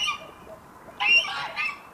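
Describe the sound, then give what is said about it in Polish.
Farmyard poultry (geese, ducks, green-legged hens and bantam chickens) calling from a pen, with honking goose-like squawks rising in two loud bursts over a steady background of softer clucks and bird noise. “Słyszymy w tle dźwięki z zagrody. Mamy w zagrodzie gęsi, kaczki, zielononóżki, liliputki.”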